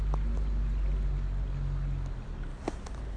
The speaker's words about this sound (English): So I am on the rivulet at the moment. It's quite sluggish. We haven't had much. I know it's sort of mizzling at the moment, but we haven't had a lot of proper heavy rain.